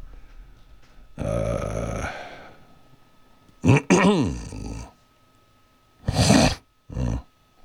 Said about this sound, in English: Excuse me, I belched.